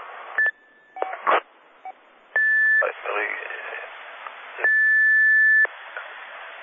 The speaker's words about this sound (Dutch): Op het moment dat we de knop indrukken, dan hebben we even die cortesietoontje en daarna komt de spraak. Als je direct begint te spreken, dan mis je dat eerste kleine stukje van je spraak.